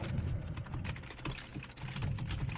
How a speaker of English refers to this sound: I see we're still typing.